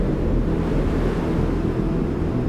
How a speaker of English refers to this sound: Rahim had forgotten all about the storm, but now he was being buffeted on all sides by the ferocious wind.